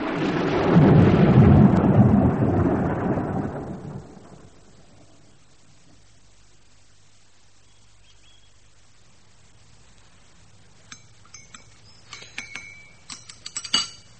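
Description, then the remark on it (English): A heavy roll of thunder rumbles loudly for several seconds and fades into quiet, followed by scattered light clinks and taps near the end. No one speaks. “Let's go back to the inn, Bob. I think there's a storm coming.”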